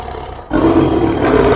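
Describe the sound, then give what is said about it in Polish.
A tiger lets out a single loud, deep roar that starts abruptly after a brief quiet moment and holds steady, rough and rumbling. “Skoro się wie, że są tygrysy, może aż jakiś dziwny pomysł przyjść do głowy różnym ludziom, a tak to przynajmniej wiemy, że nic złego się nie stanie.”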